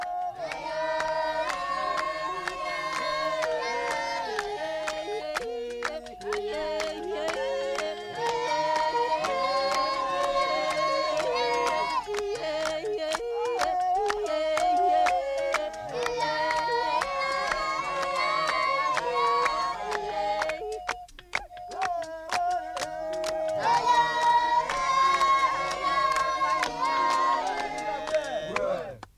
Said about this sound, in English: Song of rejoicing after returning from a hunt. Polyphony of the Babenzele Pygmies of the Central African Republic.